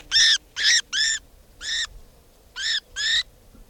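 Six loud, harsh, high-pitched calls from a bird labelled bird 490, with a strong harmonic ring: three in quick succession, a lone call after a pause, then a final pair, over faint low background noise.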